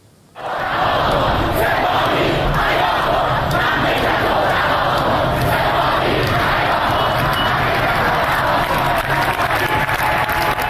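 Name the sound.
protesters chanting slogans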